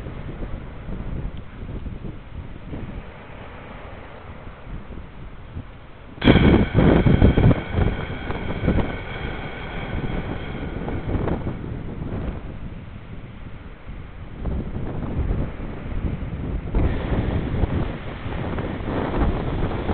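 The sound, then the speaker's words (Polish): Wind blows steadily outdoors, buffeting the microphone with low rumbling gusts; a stronger gust hits sharply around six seconds in, then the whooshing settles back to a continuous roar. “Po prostu wczuć się w wiatr.”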